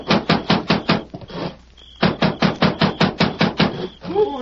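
Loud, heavy pounding at night on the wooden door of a rancher's cabin near the town of Kingsford, two rapid bursts of about six to eight evenly spaced blows each, separated by a short pause, with a brief voice at the end.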